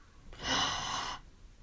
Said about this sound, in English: Right, I want you to do something with me. Are you ready? Okay. Take a deep breath in.